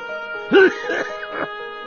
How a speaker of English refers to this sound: Though the old man was much better than earlier, he still had the uncontrollable cough, and he was desperately frail.